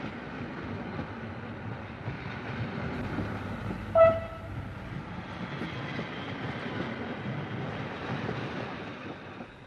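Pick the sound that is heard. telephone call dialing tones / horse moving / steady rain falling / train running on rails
train running on rails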